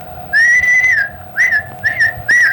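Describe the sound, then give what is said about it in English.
A man whistles a sharp calling signal in Oklahoma: one long sustained tone followed by three shorter rising blasts, loud, the kind of whistle used to summon farm animals. “But his whistle would.”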